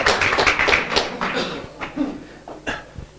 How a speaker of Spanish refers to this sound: Vicente Citolema. Aplausos.